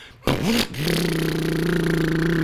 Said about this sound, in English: Why can't those things ever start on the first try? I have never had anything that started with a damn pull start on the first try.